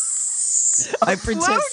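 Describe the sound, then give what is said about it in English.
A person imitates a snake with a sharp, steady, high-pitched hiss lasting nearly a second, then breaks into voiced, warbling vocal sounds. “Yeah, and I start weaving back and forth to hypnotize the snake. Are you making sounds?”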